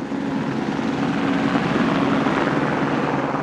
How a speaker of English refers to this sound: The weather that day was perfect for flying. Blue skies with just a bit of high cloud. The chopper climbed into the brisk winter air, blades thrumming as it cruised south across the Salt Lake Valley.